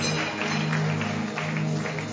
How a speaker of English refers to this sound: Please take your seat in the presence of God. Can you clap and give God a big clap of praise? Bless him.